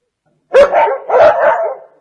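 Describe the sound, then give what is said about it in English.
A dog barks twice, two loud, drawn-out woofs in quick succession with a brief gap between them and no voices. “This dog helps her.”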